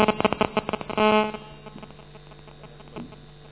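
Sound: mobile phone buzzing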